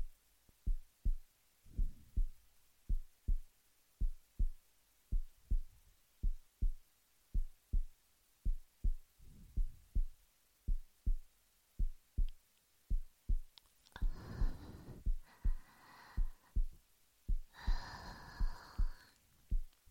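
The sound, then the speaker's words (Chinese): A steady heartbeat thumps in a regular lub-dub rhythm throughout, loud and muffled, with a brief breathy, tonal sound rising over it near the end. “你还可以控制你的心跳吗？”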